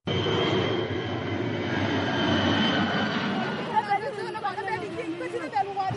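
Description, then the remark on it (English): A large cargo plane chartered by the World Food Programme roars loudly overhead while airdropping sacks of sorghum over Kandak village in Ayot County, its engine drone filling the first few seconds before fading away, leaving a crowd's scattered voices and chatter audible as women gather the sacks. “Women are assembling scattered sacks of sorghum airdropped by WFP chartered planes in Kandak village of Ayot County, an area controlled by the SPLIO.”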